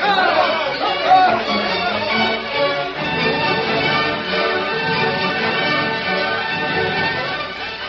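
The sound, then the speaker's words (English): An angry mob marching to the courthouse, wanting to break into the jail, shouts and clamors, many voices overlapping in a steady, loud roar of yelling with no clear words standing out, sustained from start to finish. “Angry crowd marched to courthouse.”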